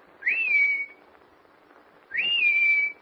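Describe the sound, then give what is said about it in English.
A person whistles two clear, rising-then-level calls to summon someone, each lasting under a second, separated by a pause of over a second. The whistles are loud against a faint background hiss. “And she knows my whistle. She'll answer it.”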